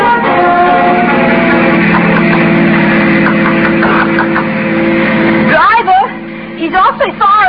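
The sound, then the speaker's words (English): A taxi engine drones steadily and loudly for several seconds as it drives, following a long black car. Near the end the drone drops away and a voice speaks. “Well, I'm going to get in that taxi and follow him.”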